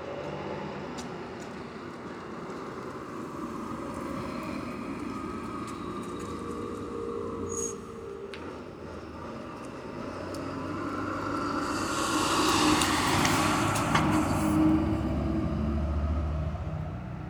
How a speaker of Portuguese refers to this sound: Tá, o ônibus passou.